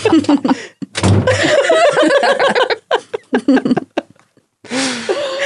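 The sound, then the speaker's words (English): A door slams shut with a single loud thud, surrounded by bursts of people laughing and chuckling before and after. “The door slams.”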